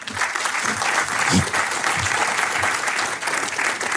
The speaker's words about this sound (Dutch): Want ik ga eens praten met twee inspirerende juryleden. En de ene die is minstens net zo inspirerend als de andere. Geef ze alle twee een groot applaus.